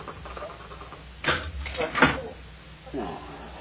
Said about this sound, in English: It is the La Frontenac chair. And you're quite right. It does tip back.